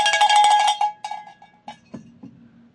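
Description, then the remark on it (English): A small, bright bell, rung on air to toll for Phyllis Schlafly, jangles rapidly for about a second, then a few slower, fainter rings trail off, ending with some dull low clunks. “Can we toll it a little bit? Can we get it? Wait. I got a bell.”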